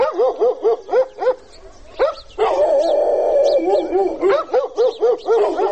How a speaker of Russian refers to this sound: Впрочем, периодически этот плотный слой тишины разрывает остервенелый лай собак.